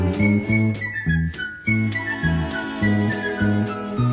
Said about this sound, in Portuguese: Se você quer ser feliz, cante uma canção. Mas se não quiser cantar, você pode assobiar.